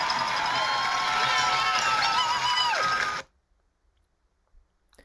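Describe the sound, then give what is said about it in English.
A crowd cheering at a marathon finish line: a loud, dense wash of shouts and high whistles for about three seconds, then an abrupt cut to near silence. “But how amazing must it feel to have so many people cheering you on as you come to the finish line?”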